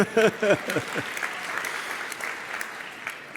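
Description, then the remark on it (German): A brief voice at the start gives way to an audience clapping for Trilux professional ceiling lights, a dense, steady patter of many hands at moderate loudness that carries on evenly to the end. “Gerne einen Applaus dafür.”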